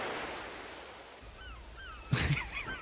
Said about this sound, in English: Yeah, he said seagull. Listen. There's waves.